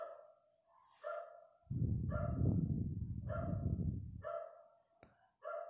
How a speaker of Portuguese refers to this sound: Eu gosto de cachorro, mas, pô, ela fica latindo assim, atrapalhando o meu. Meu áudio aqui, eu fico meio incomodado.